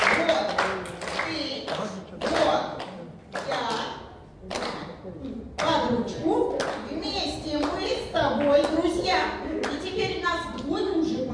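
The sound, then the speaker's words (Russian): Children clap their hands in a loose, uneven burst of sharp slaps, strongest at the start, while kids' voices and chatter carry on over and after the applause. “Хлопаем в ладоши.”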